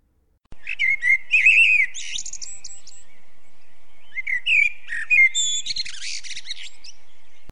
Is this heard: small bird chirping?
yes